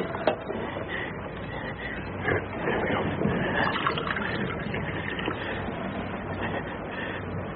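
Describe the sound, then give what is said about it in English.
Water pours steadily into a glass for several seconds, a continuous splashing trickle at moderate volume with no pauses and no voices. “Are you thirsty? Would you like some water? Yeah. Water.”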